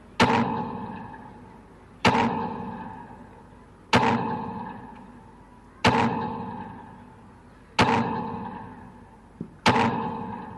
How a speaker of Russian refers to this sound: Трижды звучит военный салют в честь тех, кто отстоял независимость нашей Родины.